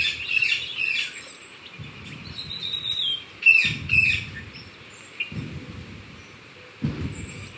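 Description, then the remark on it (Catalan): Dense jungle ambience with several birds chirping and whistling high above, while low rumbling thuds swell and fade underneath at irregular intervals. No one speaks. “Sí, sí, tot s'ha convertit en una selva.”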